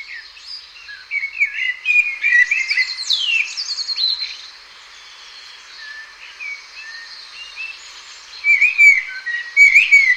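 A common blackbird sings rich, fluty whistled phrases mixed with higher twittering notes, busy for the first few seconds, quieter in the middle, then rising again near the end. No voices.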